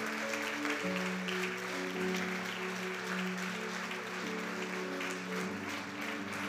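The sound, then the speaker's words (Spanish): An audience claps steadily and loudly throughout, applauding God for people invited to the front, a dense, continuous patter of many hands, with sustained low musical notes held underneath the applause. “Vamos, vamos, siga aplaudiendo a Dios por estos corazones.”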